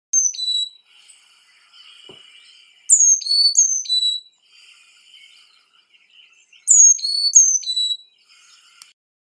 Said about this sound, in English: The Carolina chickadee is a gray and white bird with a black cap and bill.